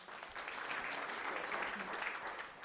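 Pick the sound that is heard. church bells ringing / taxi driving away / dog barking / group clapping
group clapping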